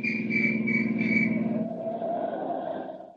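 A shrill police whistle, blown by police at a roadblock on a wilderness road at twilight, trills in several quick, warbling bursts over a steady low rumble, then cuts off, leaving a fainter droning tone that fades out.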